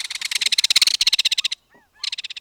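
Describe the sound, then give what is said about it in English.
Loud, rapid rattling calls of belted kingfishers disputing and chasing one another through madrona trees near the shore of a bay, a long dry burst of clicking notes that breaks off briefly, then resumes, with no talking. “Near the shore, disputing kingfishers rattle in their mercenary manner, chasing one another through the madronas.”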